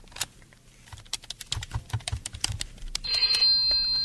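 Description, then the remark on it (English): A rapid series of sharp clicks, like a number being dialed, gives way after about three seconds to a steady, bright electronic telephone ring, fairly loud with no voices, as a call is placed to the office of Orson Welles. “Rodney, the phone, please. Right away, Mr. Wells. Here's the phone.”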